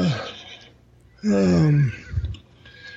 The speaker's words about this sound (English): oh, yeah, horse.